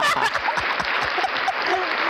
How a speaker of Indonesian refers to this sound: Tepuk tangan dulu, Tepuk tangan, keren banget.